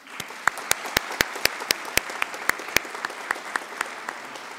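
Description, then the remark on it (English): An audience of graduates at a graduation ceremony applauds their loved ones steadily, a dense wash of clapping from a large crowd with several sharp individual claps popping out. It holds at a fairly even level throughout, with no voices. “Graduates, please join me in applauding your loved ones, including those who are not here in this room, for everything they have done to support you.”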